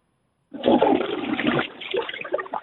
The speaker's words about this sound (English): I was a little busy there for a minute. That was my collar bracket going down the toilet.